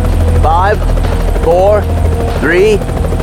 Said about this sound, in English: Griggs took the chopper in a wide arc around the compound and then brought it down to hover a few feet above the ground in a clearing they had previously picked out.